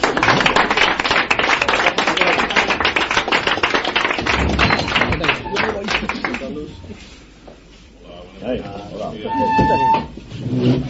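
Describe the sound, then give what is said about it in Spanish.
A crowd breaks into loud, dense applause as members of the Congregación de Santana enter to jointly launch the announcing rocket (cohete anunciador); it lasts several seconds, then thins out and fades, leaving quieter voices murmuring afterward. “Un aplauso.”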